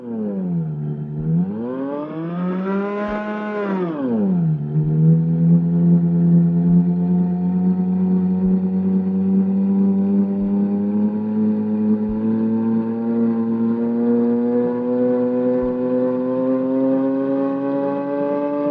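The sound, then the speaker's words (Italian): A howling intonarumori drone, Luigi Russolo's Ululatore (howler), with strong harmonics swoops low, rises to a peak, then falls back and holds a steady, slowly rising wail, sustained and loud throughout, with faint periodic clicks underneath. “E a proposito di intonarumori, ascoltiamo di Luigi Russolo l'Ululatore.”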